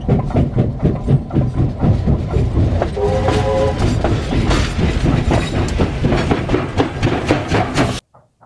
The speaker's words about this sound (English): The wagons used in this section are from China Rail, and it is not uncommon to see the whole rake with a locomotive at each end. This probably saves time by not having to shunt the rake in two parts.